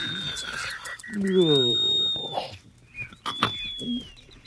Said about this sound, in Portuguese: Dona Noite, de tão assustada, amanheceu. Os passarinhos aflitos cantavam para acordar o rio.